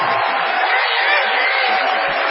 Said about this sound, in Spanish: Vamos a saludar ahora individualmente con una ovación